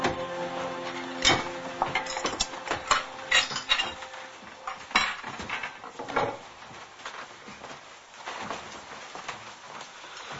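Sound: dishes and cutlery clattering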